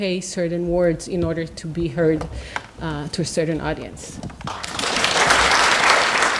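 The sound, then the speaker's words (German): A voice speaks for a few seconds, then audience applause breaks out at an event, a dense, steady crackle of many clapping hands that swells and carries on to the end. “Ja, dafür gab es dann Applaus”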